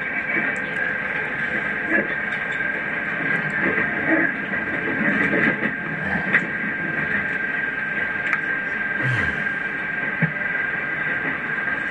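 A train running steadily as it crosses a river, heard from inside a carriage: a continuous low rumble and rattle with a sustained high whine over it, loud and unbroken throughout.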